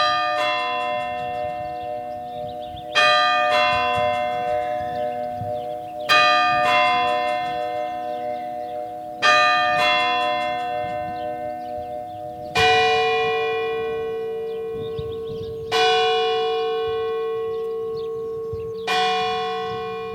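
Church clock bells ring the fourfold quarter chime of paired two-note strokes at 3 in the afternoon. A deeper bell then tolls three slow hour strikes, the first exactly on the zero second, each ringing out and fading, loud and reverberant with no voices.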